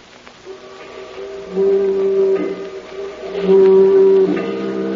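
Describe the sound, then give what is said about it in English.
A foghorn along the waterfront sounds two long, deep, steady blasts over a faint rumbling background, the second arriving a moment after the first fades. “We'd better find that foghorn you were talking about.”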